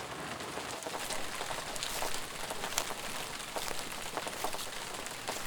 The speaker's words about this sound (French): En plus, il pleut.